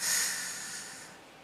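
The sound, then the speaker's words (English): A single deep breath drawn in during a guided prayer breathing exercise, an airy rushing hiss that starts strong and slowly fades over a second or so, with no talking. “But we just take a moment and we just breathe in.”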